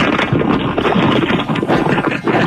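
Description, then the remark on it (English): A box packed with rolling papers being shaken hard, making a loud, steady papery rustle and rattle that keeps going without a break for a couple of seconds, with no voices. “That's what a box full of rolling paper sounds like, baby boo.”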